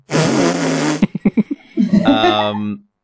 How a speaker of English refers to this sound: to summarise everyone's year, I think that fart noise is appropriate. And also because I have a child, I've heard that sound a lot.